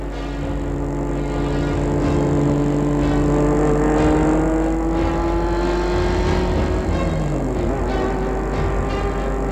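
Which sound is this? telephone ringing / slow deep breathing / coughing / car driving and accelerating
car driving and accelerating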